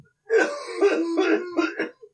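A man coughs and clears his throat close by, a rough, phlegmy run of four or five bursts over about two seconds, with no talking.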